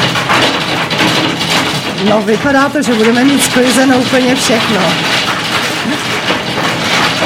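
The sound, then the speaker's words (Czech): Large hailstones pound down in a dense, loud, continuous clatter, a steady roar of hard impacts that carries on while a man speaks over it. “Je to opravdu velký rachot, doufám, že nás slyšíte.”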